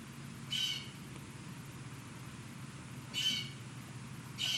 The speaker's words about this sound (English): The sound of the bird call out there, it has no edges or perimeters. The sound of the bird call is one of the countless definitional aspects of clarity intelligence.